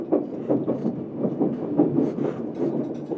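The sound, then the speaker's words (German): The Transcantabrico passenger train rolls along the tracks in Cantabria, Spain, with a steady low rumble and a loose, repeating rhythm of wheel thumps, fairly loud, with no voices. “Die Stadt ist ebenfalls ein Seebad, zudem Hauptstadt von Kantabrien, das unserem Zug den Namen gegeben hat, Transcantabrico.”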